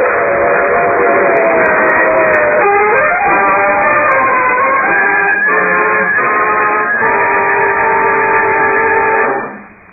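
A steam locomotive whistle blasts loudly for nearly ten seconds, its layered, reedy tones wavering and shifting in pitch before cutting off abruptly at the end.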